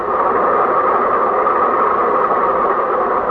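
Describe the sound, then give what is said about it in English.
A train at a railroad crossing rumbles steadily and continuously, a dense mechanical drone at constant loudness throughout, with no voices and no breaks in the sound. “The bus has to pass the railroad crossing, too, and the train is at the railroad crossing.”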